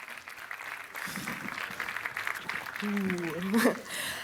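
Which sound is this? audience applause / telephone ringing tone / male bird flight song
audience applause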